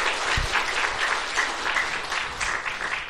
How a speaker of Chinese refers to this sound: 他们请站起来，我们再次掌声谢谢他们